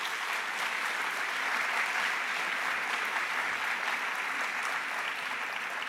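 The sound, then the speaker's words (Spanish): An audience claps steadily for several seconds, a dense, even wash of many hands applauding together at moderate volume with no voices standing out. “¿Cuánto dicen amén eso? Aplauda, aplauda.”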